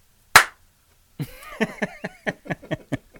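A single sharp, close hand clap rings out alone, followed after a brief silence by a steady run of rhythmic percussive hits layered with tonal, music-like sounds.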